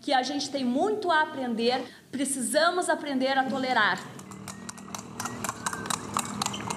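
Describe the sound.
A person talks for a few seconds, then a steady clip-clop of horse hooves pulling a buggy takes over as couples arrive for a wedding, sharp regular hoofbeats with a faint background murmur.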